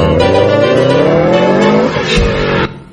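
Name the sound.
car stopping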